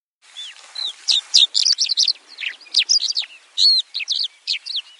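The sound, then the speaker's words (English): Birds chirp and sing at a nest in a tree, a busy, continuous stream of quick high-pitched notes and trills, bright, with no voices or other sounds underneath. “But now, we can hear birds singing.”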